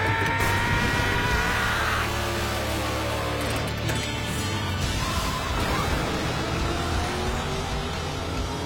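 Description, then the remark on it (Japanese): A car engine roars and revs hard, its pitch sweeping up and down over a dense mechanical rumble and grinding noise, with no talking, as the car is used to brake a train nearing a station with three people aboard. “この車で列車にブレーキをかける。”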